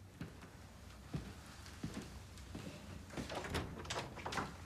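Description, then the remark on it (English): A woman eases open her father's bedroom door: a few soft clicks and knocks from the handle, then a longer rustling scrape as it swings, all quiet, with no voices. “She turns out the kitchen light and trudges towards her bedroom, stopping to stare at her father's bedroom door. She walks towards it.”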